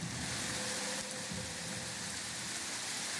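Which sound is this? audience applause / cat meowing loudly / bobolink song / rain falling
rain falling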